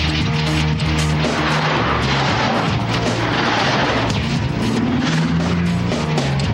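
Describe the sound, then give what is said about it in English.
A car engine idles with a steady rumble while stopped at a red stoplight, signalling right, holding for several seconds, its low hum wavering slightly in pitch under a dense wash of background noise. No one speaks. “Mark approaches a stoplight, which turns red. He stops and signals right.”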